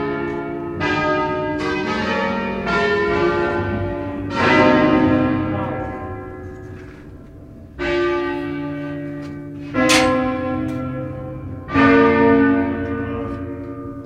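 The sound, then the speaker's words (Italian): Several large church bells ring one after another in an irregular sequence, each struck note blooming with rich overtones and a long ringing decay that overlaps the next, fairly loud. “Suono di campana.”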